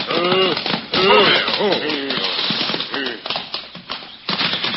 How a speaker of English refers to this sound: They drove their horses down the path at breakneck speed and soon drew abreast of the mighty tree he had mentioned.